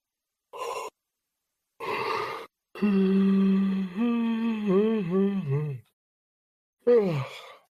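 A person yawns: two breathy intakes of air, then a long, drawn-out voiced yawn with a wavering pitch, followed by a short falling sigh.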